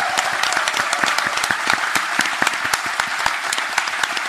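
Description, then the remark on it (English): Sustained applause from a live audience at a live show by The Athletic as the panel leaves the stage, dense overlapping claps forming a steady, fairly loud wash for the whole stretch, with scattered sharper individual claps standing out. “And as we leave the stage, a huge round of applause”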